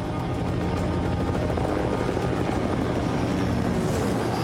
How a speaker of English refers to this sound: The poachers are sitting on the boat, resting, when they spot the helicopter approach.